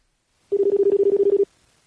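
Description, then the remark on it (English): Telephone dialing tones while calling someone's phone: a quick, even run of about a dozen short beeps at one steady mid pitch, lasting roughly a second, loud and alone with no voices. “I'm calling you right now.”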